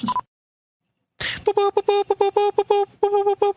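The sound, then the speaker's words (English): A telegram sound effect: a quick run of short, bright electronic beeps in an uneven Morse-like rhythm, loud, after a brief burst of noise and a pause. “No, that's the telegram. That's the telegram sound.”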